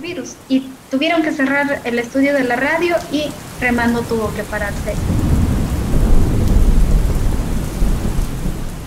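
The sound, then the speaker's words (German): A voice speaks for the first few seconds, then heavy rain takes over in Sarayaku in the Ecuadorian rainforest, a dense loud hiss with deep rolling thunder rumbling underneath and building toward the end. “setzen heftige Regenfälle und Hochwasser der indigenen Gemeinde schwer zu”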